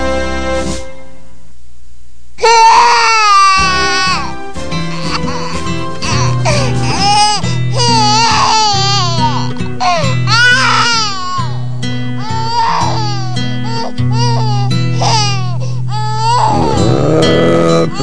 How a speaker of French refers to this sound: Pleure pas, petite fille, ne pleure pas.